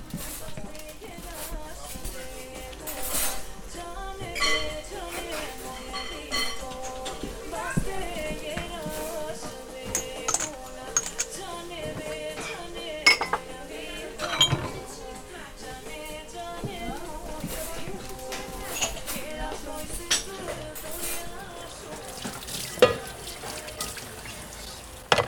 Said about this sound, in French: Ah, je suis en train de faire la vaisselle.